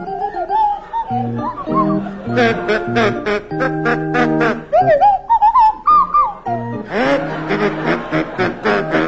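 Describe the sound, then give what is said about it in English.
A kazoo and a swanee whistle play the carol "Deck the Hall with Boughs of Holly" together, Willie Rushton on kazoo and Tim Brooke Taylor on swanee whistle. Buzzy held notes mix with sliding, swooping whistle pitches, loud for several bars with brief pauses between phrases. “Tim and Willie, you're to start, and your carol is "Deck the Hall with Boughs of Holly," and it's to feature Willie Rushton on kazoo and Tim Brooke Taylor on Swanee Whistle.”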